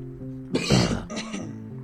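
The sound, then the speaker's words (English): A single sharp, forceful sneeze bursts out, followed by a couple of softer breathy snorts, all over a steady low background hum. “Bless you.”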